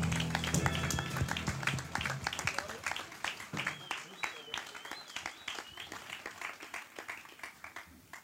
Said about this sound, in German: unser Spielgott! Applaus!